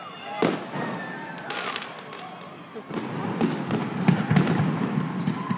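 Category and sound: sound effect, fireworks exploding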